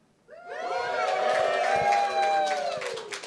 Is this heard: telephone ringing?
no